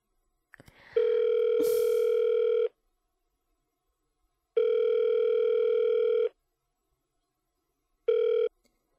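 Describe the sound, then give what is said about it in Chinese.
A phone's ringback tone while a woman calls her husband: a steady electronic buzz pulses about three times with long silent gaps, the last cut short, after a brief handling rustle at the start. “哎呀，还要给我老公打电话。”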